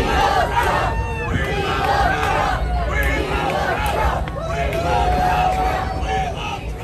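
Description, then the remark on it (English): A large outdoor crowd shouts and chants at Ron DeSantis while he flips pork chops, a mix of "We want Trump" and "We love Trump", many overlapping voices rising and falling in a loud, continuous roar of yelling, with no single voice standing out. “And this is the response that DeSantis got from the crowd while he was flipping pork chops.”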